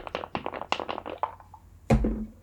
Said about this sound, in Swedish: Du kan slå ett kognitionsslag för att tänka tillbaka på det du har sett innan studierna. Ja. Ja, vi kan testa och pressa en tärning.